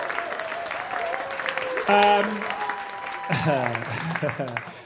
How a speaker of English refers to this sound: We are in front of a live studio audience. Give your beautiful selves a big old cheer. Good evening to you, one and all.